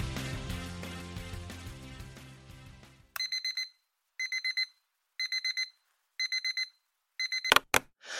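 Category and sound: household object, alarm clock ringing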